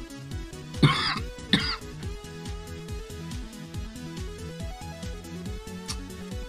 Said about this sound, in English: I like how you muted your mic there right when you got done coughing. it came out of nowhere. Yeah, I know. You're just like, oh, I'm coughing, better mute my mic. Okay, I'm muted. I'm already done coughing.